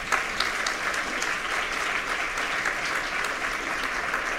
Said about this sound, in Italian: Sono molto contento di questo applauso spontaneo.